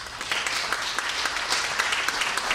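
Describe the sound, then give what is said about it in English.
Steady applause from an audience clapping to show who has participated in a public protest, many overlapping hand claps forming a dense, crackling wash of sound that holds at an even, moderate loudness throughout with no speech. “So this prompts me to ask, first of all, of our audience here in your long lives, how many of you clap if you have participated in a public protest?”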